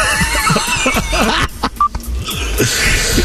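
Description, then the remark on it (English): A single short, mid-pitched electronic beep on a caller's phone line during a radio phone-in briefly cuts through a dense, crackly background of noise and clatter. “I think there's a beep on the All phone.”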